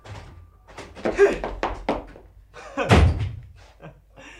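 A door bangs shut. Several heavy thuds build to one loud slam, followed by a few fainter knocks and rattles, with no talking over it.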